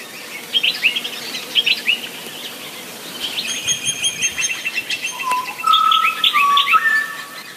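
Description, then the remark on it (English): Bright, whistled bird song recorded during fieldwork in a gorge in Kalbarri, Western Australia. It rings out in repeated phrases, with overlapping notes and trills that echo and linger through the gorge, with no voices present. “I recorded this while I was doing fieldwork in Kalbarri, Western Australia. The gorge made the song echo so perfectly, I think the magpie just enjoyed hearing itself.”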